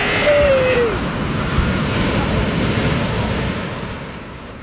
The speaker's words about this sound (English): Whoops! Sailboat's bobbing a bit. These waves are getting a bit frisky. Hello. What's that on the horizon? Looks like... Oh, no. A serious squall! Oh, jeepers! I'm being carried out to sea!